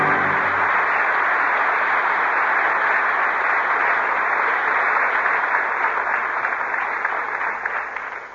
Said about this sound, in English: That applause invites the return of the two artists who gave such distinguished performances tonight. Loretta Young, whom we've presented many times before, and Orson Welles, who has made his first appearance in the Lux Radio Theater tonight.